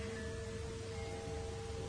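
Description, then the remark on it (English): A normal telephone ringtone on a mobile phone: a steady electronic tone hums continuously for about two seconds, a few pure pitches held together over a soft background hiss, fairly quiet, with no one talking. “I have a normal telephone tone.”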